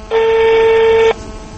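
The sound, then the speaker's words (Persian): A single steady electronic phone tone, like a keypad or dial tone, sounds loudly for about one second and then cuts off, leaving quiet background noise with no one speaking. Someone is dialing a father's son's phone number on their own phone. “من از تلفن من بیاد استفاده کنیم رقمشم میچینیم.”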